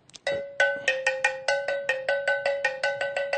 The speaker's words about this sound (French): Double cloche d'origine de patier. Un ancien instrument de musique Bamoun. C'est fait à base de fer métallique.